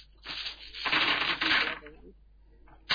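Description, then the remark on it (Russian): Dice clatter and roll across a hard wooden nightstand, a busy rattling burst lasting about two seconds that tapers off, followed by a brief click at the end. “У меня кубики уже на тумбочку перекочевали рядом.”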